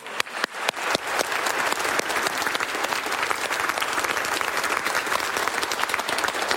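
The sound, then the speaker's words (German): An audience breaks into applause for Jesus, starting with a few scattered claps that quickly swell into steady, dense clapping that holds at full strength throughout, with no voices heard. “Und das ist doch ein Applaus wert für Jesus, oder?”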